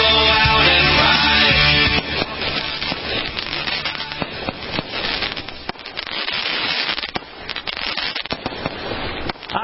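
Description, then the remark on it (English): Fireworks explode in a loud, dense barrage, a roaring burst at first giving way to rapid crackles and sharp pops that keep going without pause; no one speaks. “Hear that? Those are the Special America Tonight fireworks.”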